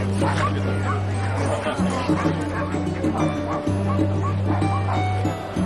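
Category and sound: animal, dogs barking and yipping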